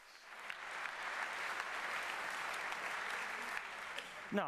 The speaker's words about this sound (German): Applaus im Saal.